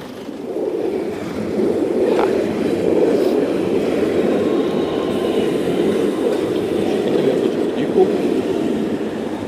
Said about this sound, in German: jetzt muss ich mal kurz gucken, dass ich hier noch über die Straße komme, weil ich höre die S-Bahn da schon und ich will aber noch über die Straße.